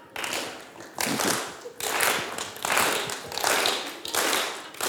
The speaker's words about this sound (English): Can we start a slow clap or something?